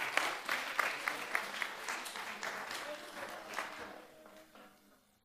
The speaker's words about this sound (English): Well done. Thank you very much. Can we give them a clap?